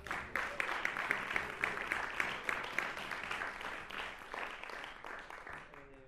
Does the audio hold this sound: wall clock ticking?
no